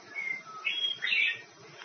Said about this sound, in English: I love those birds, don't you?